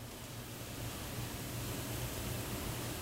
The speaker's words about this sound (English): The Food Science Kitchen at the University of Arkansas produces its own kind of rhythm. Freezers, mixers, and other machines hum along as local entrepreneurs work on their recipes.